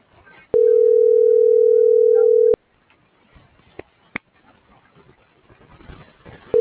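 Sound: telephone ringback tone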